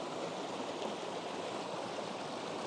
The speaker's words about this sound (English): Oh, wow. The water seems to be going down a sort of rapidy thing here, quite dropping quite steeply. Yeah. If you put your cane in, you might be able to feel how fast it's going.